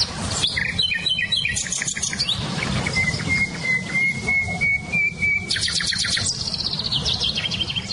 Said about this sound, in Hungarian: nem csak a fülemüle hallatszik ki, hanem például a fekete rigó, csilcsafüzikének nagyon erős hangja van, vagy barátposzátak